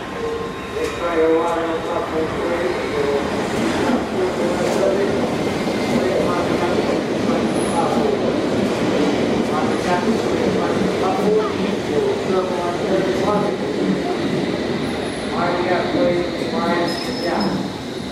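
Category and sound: vehicle, london Underground train running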